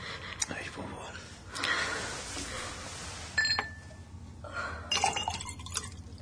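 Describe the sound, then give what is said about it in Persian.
A glass of water is handed over to a woman sitting on a bed after a bad dream: a few light glassy clinks and brief sloshing of liquid, fairly quiet, with soft rustling and faint voices in between. “کسرا لیوان آب به فروغ میده.”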